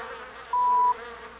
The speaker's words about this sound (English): The buzzing of the bees was very loud.